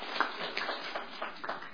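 A group of people at an association meeting applauding after the financial report, a steady, dense patter of many overlapping claps lasting a couple of seconds at a moderate level, with no voices.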